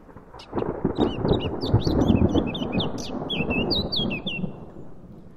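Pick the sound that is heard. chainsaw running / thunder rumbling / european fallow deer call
thunder rumbling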